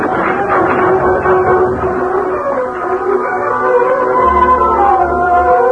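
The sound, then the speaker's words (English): The main body of a horse-drawn wagon train rolls out from Fort Griswold with a steady, loud rumble of wheels and creaking wood, a continuous busy clatter filling the whole stretch with no voices. “An hour later, the main body of the train followed.”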